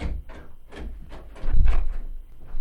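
A door opens as a visitor enters, with a run of clattering, scraping movements and a heavier low thud midway through; no one speaks.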